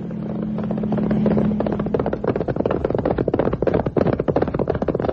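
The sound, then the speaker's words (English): Rapid, clattering hoofbeats of a galloping horse, fairly loud, pounding in a steady rush; a low droning tone hangs underneath for the first couple of seconds, then fades. “On horseback.”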